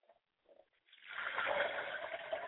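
A steady stream of liquid libation is poured toward the south in a ritual and splashes onto the ground for over a second, a continuous hiss after a couple of faint soft sounds.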